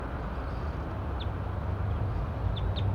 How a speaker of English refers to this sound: Pointed at the wild bird again, back in the pine tree.